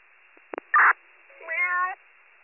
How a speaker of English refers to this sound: Meow.